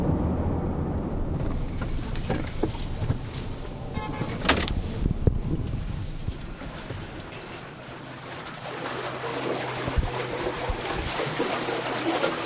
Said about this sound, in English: The sound of the water is very relaxing. At times when I'm stressed out, I'll just stop and I'll listen to the water. It's a different sound levels, different pitches. I like it.